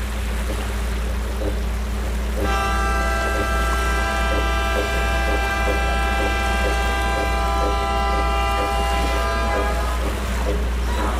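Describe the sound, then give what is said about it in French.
A boat's deep horn blows one long, loud sustained blast over the steady rumble of an engine and rushing water, during a four-day boat journey on the Amazon, Trombetas and Niamunda rivers. “Sur les terres ancestrales des Icamiabas, je dois voyager 4 jours en bateau sur les fleuves Amazon, Trombetas, puis Niamunda.”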